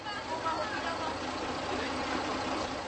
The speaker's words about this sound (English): Yet the creaky old Karosa bus heading towards Krkonoše or Giant Mountains is almost full when I arrive at the bus station.